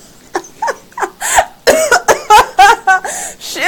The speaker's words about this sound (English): I don't know how to cough cute yet.